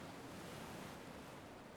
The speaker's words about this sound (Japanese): 物心つく前から、お母さんのお腹の中にいる時からずっと波音を聞いてて、だからこうやってると すごく落ち着くのかな。